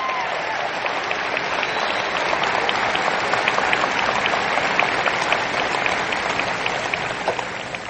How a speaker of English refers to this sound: Can you give both these boys a big round of applause for me? Thanks, guys.